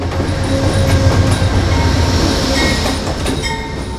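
A Downeaster commuter train on the Boston to Exeter line rolls past, a loud steady rumble with rhythmic clickety-clack from the wheels on the rails and faint metallic squeals, no voices.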